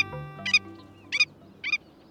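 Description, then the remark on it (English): A willet, a big, boldly marked sandpiper, gives three sharp, nasal yapping calls spaced about half a second apart, clear over a low, steady background rumble. “The nervous yapping of that big, boldly marked sandpiper called the willet is a characteristic sound of sandy beaches from Canada to Colombia.”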